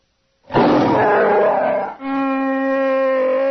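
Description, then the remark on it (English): Chewbacca lets out a loud, frustrated roar: a rough, gravelly growl that shifts midway into a sustained, harsh, tonal bellow lasting about three seconds, with no other sounds. “Chewbacca roared his frustration and punched another hole in the wall.”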